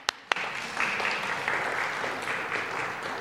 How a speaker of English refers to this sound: Applause.